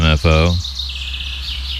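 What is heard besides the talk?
birds chirping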